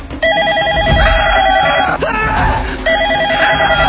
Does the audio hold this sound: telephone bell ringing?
yes